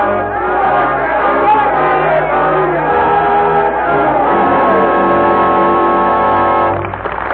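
A large, angry revolutionary crowd in Paris, France, chanting its hate and screaming for blood, roars and shouts continuously in a dramatization of A Tale of Two Cities, many voices blending into a loud, dense din that holds steady for several seconds before dropping off abruptly at the end.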